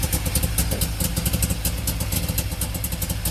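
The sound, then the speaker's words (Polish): The modern, eco-friendly 100-horsepower engine of a new Syrena car runs steadily, a low, even rumble with a quick rhythmic ticking on top, fairly loud with no voices. “Nie, silnik jest nowoczesny, ekologiczny, niestety nie jest stara syrenka. To trochę inaczej brzmi niż pyr, pyr, pyr.”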